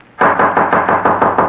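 Loud knocking on a door: about seven quick, evenly spaced blows in a steady rapid rhythm after a brief quiet moment, with no voices.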